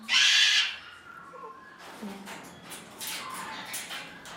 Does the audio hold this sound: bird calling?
yes